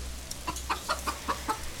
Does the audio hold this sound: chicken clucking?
yes